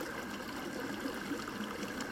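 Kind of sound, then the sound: nature, flowing stream water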